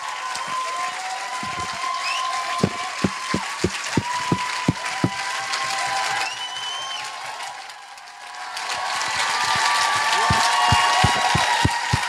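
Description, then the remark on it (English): A crowd breaks into sustained applause for the leadership, pastors among them, many hands clapping densely with a few sharp, louder claps standing out; it dips briefly midway, then swells again with scattered cheers. “And let's just give them a massive clap.”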